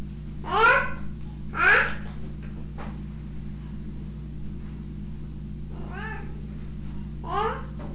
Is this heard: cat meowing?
yes